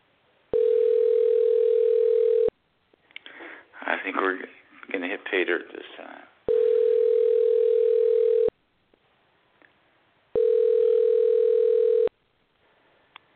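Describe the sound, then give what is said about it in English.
An outgoing call's ringback tone, on a second attempt to reach a guest by phone, sounds three times, each a steady, loud two-second hum, with a man speaking briefly between the first and second rings. “Okay, he's trying to answer the phone, so let's go ahead and try it one more time.”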